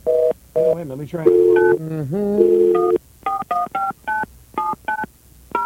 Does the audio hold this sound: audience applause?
no